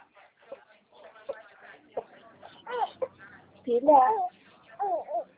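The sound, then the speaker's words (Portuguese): A baby girl babbles in a string of short, high-pitched vocal bursts with sing-song rises and falls, the loudest coos coming near the end, with no clear words. “Só um momentinho que eu tô com minha bebê aqui.”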